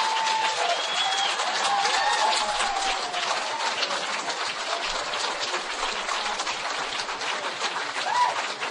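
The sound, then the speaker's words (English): A church audience stands and applauds loudly and steadily to celebrate a man's reported healing miracle, a dense wash of clapping with scattered cheers and whoops rising over it throughout. “Oh, you can go ahead and stand and clap over his miracle.”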